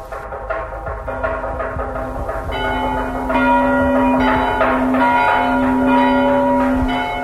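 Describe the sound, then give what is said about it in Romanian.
Church bells toll steadily and loudly for a dead man, their ringing tones overlapping into a sustained, resonant wash with no voices present. “Îți trage clopotele ca la toți creștinii.”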